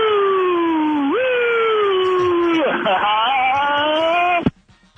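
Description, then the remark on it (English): A man calling in to the Kevin and Bean show line imitates a police siren with his mouth, holding a loud, wavering wail with rising and falling pitch for several seconds before cutting off abruptly near the end. “Some sort of police siren noise with his mouth.”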